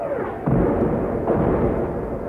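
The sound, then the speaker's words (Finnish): An artillery barrage rumbles on in a continuous deep roar, with two heavier booms landing about a second apart. The sound is loud and dense throughout, with no voices. “Keskityksen vielä jymistässä tulivat hauhian toverit.”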